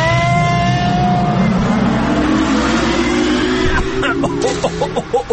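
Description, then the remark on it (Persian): A time machine powers up with a dense mechanical roar and slowly rising whine, loud, then breaks into quick sputtering pulses as it departs. “آهان دیگه سفارش نکنم و ماشین جای خوبی میبری یا آفرین برو بریم.”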